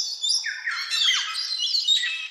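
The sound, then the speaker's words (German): Harsh, raspy parrot squawks from a yellow-crowned amazon, a rare tropical parrot species: a continuous burst of loud calls with grating upper tones and no talking. “Das ist vielleicht für euch jetzt nicht so der Begriff von, den kenne ich, aber das ist eine sehr seltene Papageienart und die klingt auch so ein bisschen tropisch. Wir hören uns die mal an.”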